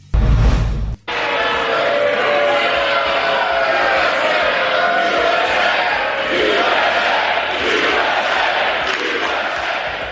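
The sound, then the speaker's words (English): A large crowd roars with sustained applause and cheering during the president's speech, voices rising together in rhythmic chants of USA that carry on loudly and steadily for several seconds after a brief burst at the start. “The president getting a lot of interruptions last night for applause and chants of USA, mainly after the Democrats booed him when he bragged about his election.”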